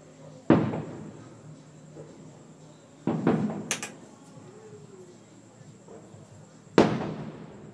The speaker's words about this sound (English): Come on, give us more fireworks.